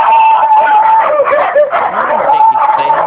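dogs barking

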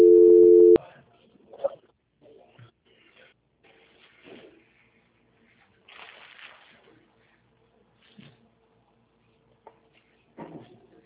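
unanswered telephone call tone

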